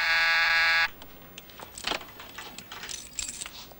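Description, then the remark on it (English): The doorbell of a flat at night gives one loud, steady electric buzz lasting under a second, followed by the light metallic jingle and clatter of keys as a woman searches for them. “As she searches for her keys, Harry rings her doorbell, alerting the man inside.”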